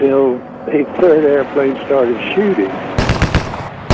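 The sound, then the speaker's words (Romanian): A voice talks for a few seconds, then a loud burst of machine gun fire from an attacking aircraft, a third plane in an aerial fight, cuts in: a rapid, sharp rattle of shots lasting about a second. “A crezut că era unul de-al nostru, până când al treilea avion a început să tragă.”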